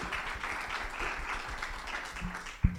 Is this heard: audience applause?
yes